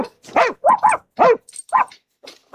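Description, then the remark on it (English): A puppy barks in a quick series of short, high yaps, about five sharp barks with brief pauses between them, fairly loud, with no one talking. “It's a puppy, isn't it? Yeah, it is. I can tell.”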